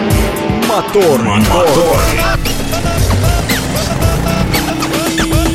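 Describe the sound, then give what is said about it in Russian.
A car engine revs and rumbles steadily under a busy, loud mix of voices and music in a radio show jingle on Govorit Moskva, its pitch rising and falling in sweeps over several seconds. “Дамы и господа, заводите свои моторы.”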